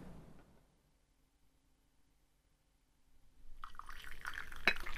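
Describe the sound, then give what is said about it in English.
After a quiet stretch, liquid is poured into a cup, a steady splashing that rises in pitch as the cup fills, with a faint clink near the end. “I wonder if I should pour Jennifer a cup.”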